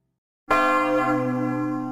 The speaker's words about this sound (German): Ja, so klingt eine Kirchenglocke oder so sollte sie jedenfalls klingen.